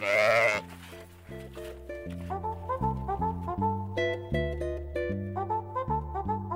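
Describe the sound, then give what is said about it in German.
A single loud, wavering bleat from a horned Icelandic sheep sounds at the very start, as people in a line drive sheep and free-roaming horses across a large summer pasture. It then gives way to gentle instrumental music with a steady stepping melody. “Die Schafe und die Pferde, freilaufende Pferde.”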